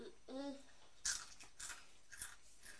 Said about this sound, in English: That funny noise. What's a funny noise? Is it you crunching crisps?